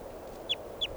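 bird call

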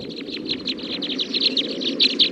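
captive birds calling

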